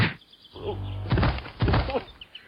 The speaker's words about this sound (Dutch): En omdat ze nogal kracht achter hun gebaar legden, schoten ze hun doel voorbij en troffen elkaar.